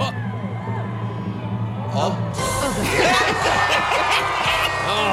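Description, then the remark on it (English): A crowd murmurs, then bursts into loud cheering about two seconds in, after a countdown when it finally went off, as heard on the NBC broadcast. Many overlapping voices shout and whoop in relief, and the din stays strong to the end. “You can hear the relief with the people that were there on the NBC broadcast when it finally went off.”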